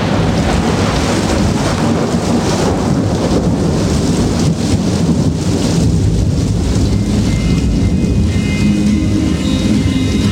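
Steady, heavy rain pours with a dense hiss, while deep thunder rumbles underneath throughout, loud and continuous without a break. No voices are heard.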